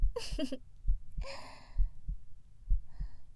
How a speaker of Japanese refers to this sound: っていうか心臓の音ちゃんと聞こえてる？